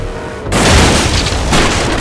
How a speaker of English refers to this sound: The locomotive's cowcatcher drove into the striped barrier, sending fragments of wood and splinters spraying in every direction. The train rumbled past, but they heard no blaster fire.